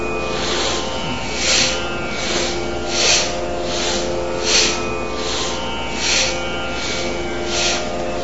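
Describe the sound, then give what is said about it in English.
Forceful breaths in and out only through the nose during Bhastrika Pranayama breathing practice repeat in a steady rhythm, about one every second and a half, each a sharp, hissing rush of air over a low, constant background hum. “Do the breathing only through your nose, both in and exhale only through the nose, not the mouth.”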